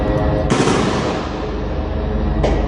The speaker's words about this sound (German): Schüsse sind in den Videos zu hören, Explosionen sind zu sehen. Den Berichten zufolge waren israelische Kampfeinheiten in der Nacht auf das Gelände des größten Krankenhauses im Gazastreifen eingerückt.